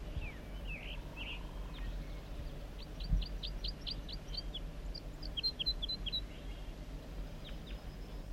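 Birdsong outdoors: a series of rapid, rising whistled notes followed by quick downslurred chirps, fairly faint against a low steady background rumble, with no talking.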